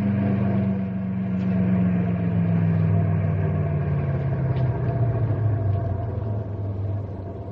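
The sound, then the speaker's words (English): The heavy engines of six big trucks in a caravan idle with a steady, deep rumble, one low tone slowly sliding down in pitch as it settles, no voices heard. “Look at the size of those trucks, will you?”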